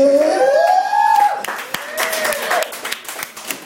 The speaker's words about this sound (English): Yeah. No, whatever, they clapped.